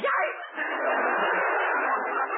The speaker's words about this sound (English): Yikes! Mr. Benny, did I hear a dog? Yes, yes, down, Fido, down.